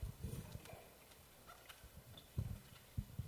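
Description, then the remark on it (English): Donkey hooves clip-clop at a slow, uneven walking pace as the donkey carries Mary on the journey to Bethlehem, Joseph walking beside; a handful of hollow knocks stand out clearly against a quiet background, with no one speaking. “Mary rode on a donkey and Joseph walked by beside her.”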